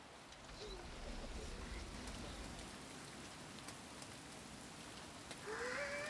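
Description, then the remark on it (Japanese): Steady rain patters outdoors in a dense, even hiss, with a soft animal bleat rising briefly near the end. No one speaks. “雨を眺めるのって結構好きなの。”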